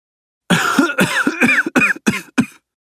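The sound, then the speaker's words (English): A series of five harsh, congested coughs comes in quick succession, each a loud raspy burst with short gaps between, sounding like someone with a bad cold. “That cold sounds pretty bad”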